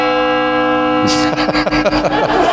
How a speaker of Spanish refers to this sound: Claro, como no has dado detalles, ha puesto la campana, ¿no? Ya, bueno, la campanilla, ¿no?